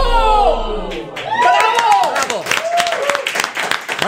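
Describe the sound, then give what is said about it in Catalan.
A burst of applause with cheering and excited voices, a crowd clapping steadily while shouts rise over it, continuing loudly throughout. “No aplaudim tant, que la trucada és de Linares, eh?”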